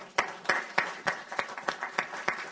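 Hands clap in a steady, even rhythm, about nine sharp claps over a soft wash of crowd noise, with no voices coming through.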